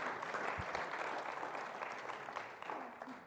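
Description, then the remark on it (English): A crowd of people applauding board members, clapping steadily in a dense, sustained wash that holds at an even level for a few seconds without any voices breaking through. “Give them all a round of applause.”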